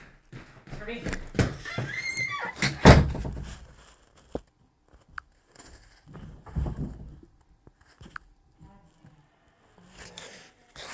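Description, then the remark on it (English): A door is pushed shut: a burst of rattling and scraping, then a solid thunk, followed by a few scattered knocks and faint shuffling, with muffled voices in the background. “Close my door, please.”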